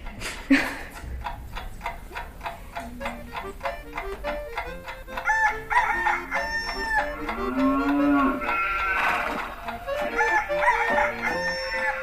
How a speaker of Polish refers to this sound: Nie sztuka wejść i tak na smutno przejść do muzeum, a jak zaszczeka piesek, zarży konik czy kogut zapieje, to ożywia się gospodarstwo.